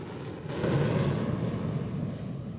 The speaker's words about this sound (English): Danny's eyes pop open and look up as he hears a plane overhead.